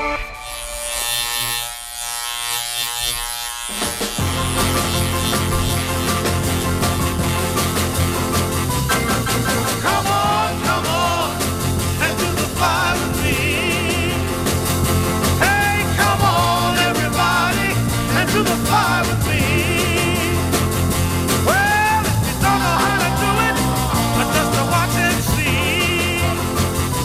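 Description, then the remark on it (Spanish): A raspy, fly-like buzzing drone opens alone for a few seconds, then a lively, loud 1961 dance song joins with steady bass and rhythm while the buzzing tone keeps weaving through the song. “Nació un baile con zumbido incorporado en lo de la mosca.”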